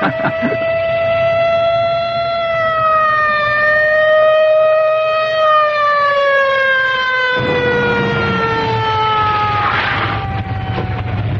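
police car siren wailing

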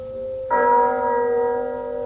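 church bell chiming

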